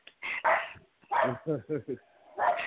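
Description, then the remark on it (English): A small Yorkie mix rescue dog barks outside in a rapid run of sharp, high-pitched yaps, about six or seven in quick bursts with short pauses, fairly loud. “that's my son out there barking.”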